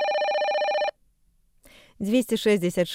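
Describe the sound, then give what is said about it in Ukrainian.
A telephone rings with a steady, bright electronic tone for just under a second, then cuts off, introducing Radio Svaboda's 24-hour answering-machine phone line in Minsk; after a brief pause a person begins talking. “телефон «Аўтаадказнік свабоды» ў Менску, працуе 24 гадзіны на суткі.”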